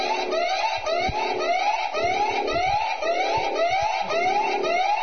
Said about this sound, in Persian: توجه تا لحظاتی دیگر زلزله‌ای به قدرت یک ریشتر به وقوع می‌پیوندد. خواهشمند است پس از قطع شدن صدای آژیر در جای خود محکم بایستید.